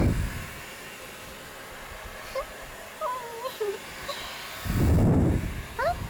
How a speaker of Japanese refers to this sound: このドライヤー、 これはうちの会社支給の特別製、その名もメイドライヤーだよ。 ドライヤーが同じ場所に当てないよ。